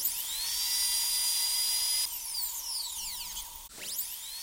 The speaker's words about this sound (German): Beim Geräusch vom Bohrer aus dem Nebenzimmer kriege ich ein komisches Gefühl im Bauch.